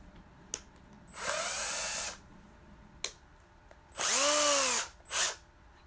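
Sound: power drill running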